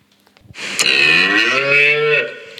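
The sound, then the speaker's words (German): A single long, loud cow moo, rising in a strong harmonic bellow that holds for about a second and a half before trailing off. No one speaks. “Das ist eine Kuh, die muht.”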